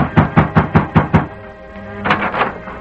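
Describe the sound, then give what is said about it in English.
Six sharp, hollow knocks rap on the door of Amos Todd's ranch house in a quick, even rhythm, made by a masked man, followed after a short pause by a brief, softer muffled sound. “The masked man halted in front of Amos Todd's ranch house, dismounted and rapped on the door.”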